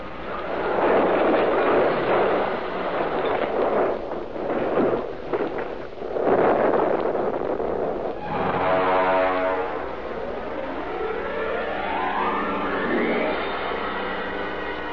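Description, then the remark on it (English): A car crash effect as a car is driven off a cliff: several seconds of loud, rough crashing and tumbling noise give way to a steady mechanical drone with a rising whine, like a revving engine. No voices. “Now we'll twist the wheel so she points for the cliff.”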